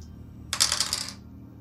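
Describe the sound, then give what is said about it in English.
Dice rolled in a game clatter and tumble across a hard tabletop in a quick, bright rattle lasting about half a second, then settle into quiet; no one speaks. “I'm going to give you a modifier to your dice roll, or a re-roll.”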